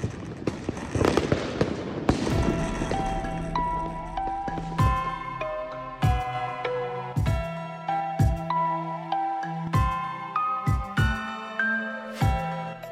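A dense crackling burst opens, followed by a steady series of loud, sharp fireworks bangs about once a second, each trailing a ringing, tonal shimmer; no voices.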